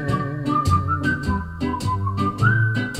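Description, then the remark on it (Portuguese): A clear whistled melody glides over a full pop band backing, with steady drums and bass underneath; the whistling carries the tune in sustained, slightly wavering notes. “Coincidentemente, as duas canções trazem assobios em seus arranjos.”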